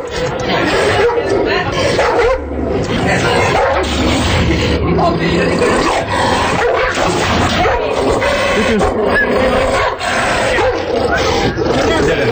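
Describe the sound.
A Caucasian shepherd dog barks loudly and repeatedly, its deep, rough barks filling the whole stretch, with people's voices mixed in underneath.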